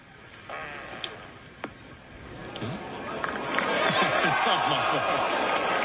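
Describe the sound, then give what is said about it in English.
During a British Open golf broadcast, a short, low, buzzy fart rasp cuts through a hushed outdoor crowd, then a swell of laughter and chatter builds and stays loud to the end. “But they handle it perfectly, and it's funny, and it's a fart, and we have audio of it.”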